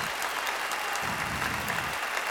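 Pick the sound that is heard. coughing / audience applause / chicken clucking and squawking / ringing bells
audience applause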